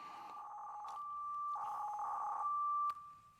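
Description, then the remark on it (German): A modem-like digital radio data signal: a steady high tone broken by bursts of warbling, buzzy data chirps, fairly loud, ending abruptly with a click. No one speaks. “Alright, so it sounds a bit like a modem.”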